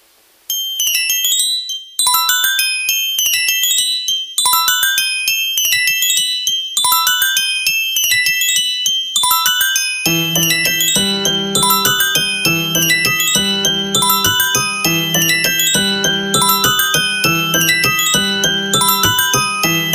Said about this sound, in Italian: In quel mentre giunsero da grandissima lontananza, vaghi rintocchi di campana. Il Procolo guardò il suo orologio d'oro. Era mezzanotte.